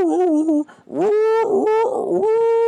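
A dog named Cow whimpers and whines at a microphone in a series of high, wavering, tonal cries with a brief pause partway through, the pitch rising and sliding as it goes. Fairly loud and alone, no talking.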